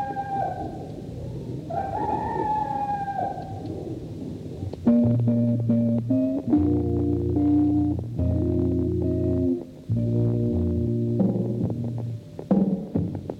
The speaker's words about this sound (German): Vorgan, Sender der UNITA, echot eine Stimme in einem endlosen Sampler aus morgendlichem Gegacker und fünf tristen Tönen einer Elektroorgel. Vielleicht das Originalband von 1976